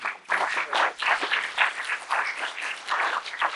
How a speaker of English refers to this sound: Give the Lord another hand clap and pray.